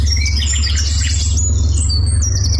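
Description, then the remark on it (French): Several birds sing at once, a busy layer of high chirps and whistled trills over a steady low rumble, like birdsong outdoors with a constant hum of running water or wind beneath, heard during a walk through a rural property along a river. “Le chant des oiseaux guide la visite de sa propriété.”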